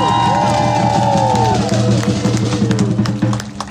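A crowd cheers and claps steadily for a few seconds, with raised voices and whoops riding over a continuous wash of applause that eases slightly toward the end.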